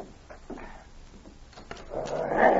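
A wooden cabin door at the edge of town is pulled open to let a dog named Spike in, a few soft knocks and clicks followed by a swelling, grainy creak of the hinges at the end; no one speaks.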